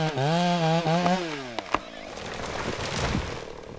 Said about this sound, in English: We have a guy with a chainsaw. He cuts the trees down. He bucks them up into links, and then we'll drag them into the landing.